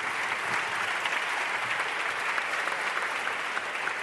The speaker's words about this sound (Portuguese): Uma salva de palmas. Vamos lá, pessoal.